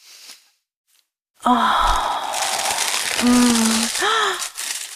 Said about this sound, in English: Beautiful black box inside. Oh, here we go. I'm gonna take the top off. Oh, open up that tissue paper.